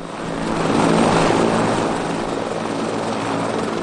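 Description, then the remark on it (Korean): A helicopter used in helicopter training for rescue dogs: its engine whines while its rotor beats out a dense, steady throb. The sound is loud, swelling a little early on, then holding constant, with no voices. “게다가 구조견들은 헬리콥터 훈련도 받습니다.”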